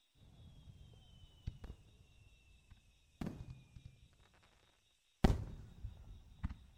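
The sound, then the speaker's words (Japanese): Fireworks bursting outdoors: three or four booms spaced a couple of seconds apart, each trailing off in a crackling rumble, with a steady faint hiss beneath and no one talking. “だってお兄ちゃんとこうして一緒に花火見るなんて、小さい頃家族同士で来て以来じゃない？”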